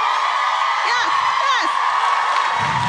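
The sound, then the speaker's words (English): A loud, high-pitched scream from an audience member rises above a dense, steady crowd roar, with whooping cheers sweeping up and down through the noise for a few seconds. “That was a good scream, that.”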